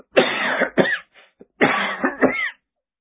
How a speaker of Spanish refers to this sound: Empecé a toser.